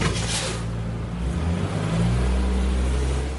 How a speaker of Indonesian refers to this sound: Ketika bis sekolah mulai bergerak dari tepi jalan di lingkungan tempat tinggalnya di Dallas, Georgia,